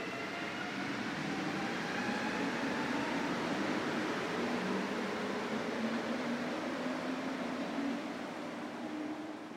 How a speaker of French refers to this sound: Ça faisait un bout de temps que j'avais pas pris le métro, mais ça sonnait pareil comme dans le temps. J'étais débarqué à la station Berry-UQAM, un classique.